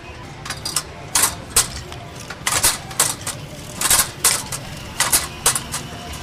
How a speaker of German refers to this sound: Die Spulen mit den Plastikstreifen werden an die Weberinnen weitergereicht. Wie Klavierspielerinnen sitzen diese hinter ihren Webstühlen. Die Spulen werden in kleinen Holzschiffchen rhythmisch hin und her geschickt. Langsam entsteht der Stoff.